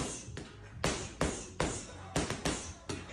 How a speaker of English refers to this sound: I don't ever know where knowledge takes me, but here's a woman doing some bag work.